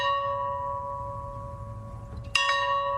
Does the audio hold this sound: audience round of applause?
no